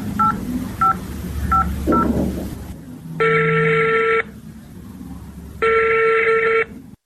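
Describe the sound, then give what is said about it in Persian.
A telephone number is dialed to call a child's mother and tell her the child has been found. A quick series of short, high keypad beeps is followed by two long, loud ringing tones separated by a pause. No one speaks. “زنده باشی تو باش که من به مادرش زنگ بزنم که بچه ایت پیدا شد.”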